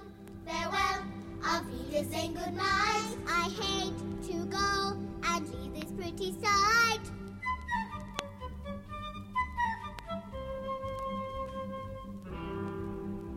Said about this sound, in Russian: И вот следующая песня будет прощаться с вами детскими голосами.